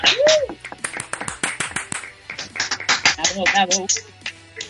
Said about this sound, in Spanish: Un aplauso, venga.